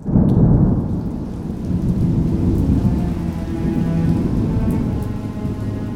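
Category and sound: nature, heavy rain falling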